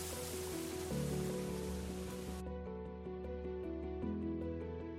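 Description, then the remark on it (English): Water rushes and splashes steadily, like a fountain or channel, its bright hiss thinning partway through while low sustained tones hum underneath. No one speaks. “And you see this everywhere here, all this lovely, lovely water.”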